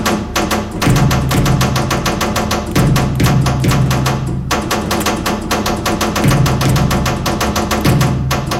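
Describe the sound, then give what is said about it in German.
Loud, rapid metallic tapping rings out in Morse-code runs, spelling out the Communist Manifesto by Karl Marx, broken by short pauses, layered over a resonant low droning hum from artist Udo Koloska's sound installation in a rusty grain dryer, with no voices. “Es wird gemorst und zwar das kommunistische Manifest von Karl Marx.”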